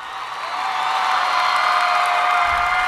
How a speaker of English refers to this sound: It's a live concert, so you'll hear a bit of cheering going on.